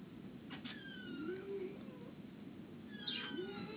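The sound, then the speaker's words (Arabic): Two drawn-out cat meows, one early and one near the end, rising and falling in pitch over a steady low background hum, moderately loud. “أما أنا لما قلت القطة البيضاء ومعين الزرقاء، ما هي هذه بنتها، بنتها بنتها أما أختهم، أختهم أختهم وحامل”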